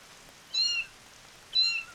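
kitten meowing

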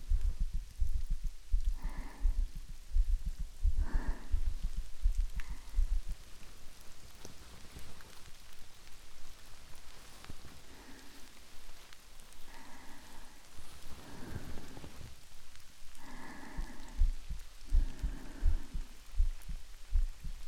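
rain falling

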